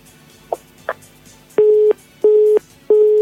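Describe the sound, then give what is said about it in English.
A couple of faint clicks, then a telephone busy signal: three loud, steady beeps of the same pitch, evenly spaced with short gaps between them. No voices are heard. “Who's messing with my phone lines? You better stop. It's not funny.”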